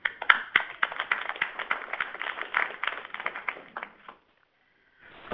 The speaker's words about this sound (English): So applause for curriculum review as well.